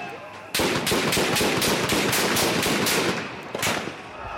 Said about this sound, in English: As security forces push them back, gunfire erupts.